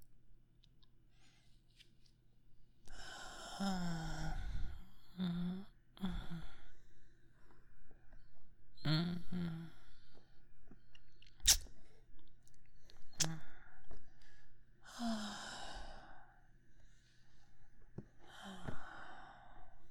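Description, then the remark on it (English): Slow breathing in a warm bath with water: long airy exhales that come roughly every six seconds, soft and sigh-like, with a couple of faint clicks in the quiet gaps between breaths. “And just listen to the gentle sound of the water. And my breathing.”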